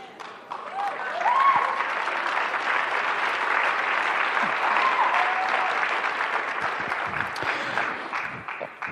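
A large audience claps steadily for several seconds, a dense, even wash of applause with a few faint shouts and cheers rising through it before it begins to thin out at the end.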